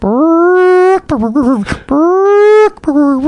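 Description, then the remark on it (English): A voice imitates a chicken's ground-intruder alarm call: two long, loud, drawn-out wailing tones separated by a quick burst of choppy, wavering clucks, then a brief final note. “And so here's a bird, a chicken, saying, "There is an intruder approaching me at ground level." Here is the word, I've learned it.”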